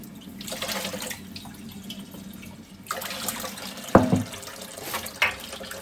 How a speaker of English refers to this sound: Compost bucket down there. Give it a bit of a rinse out.